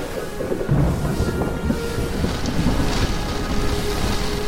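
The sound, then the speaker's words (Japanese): A heavy, sustained rumble of thunder from a lightning strike rolls through a stormy soundscape, with rain and wind noise filling the background throughout; no one speaks. “やべ、雷当たったか。”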